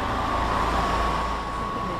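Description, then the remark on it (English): An air conditioning unit runs with a steady, unbroken mechanical drone, a low rumble beneath a constant humming tone and airy hiss, moderately loud with no voices. “She stops in front of each struggling air conditioning unit. Does that sound like it's on?”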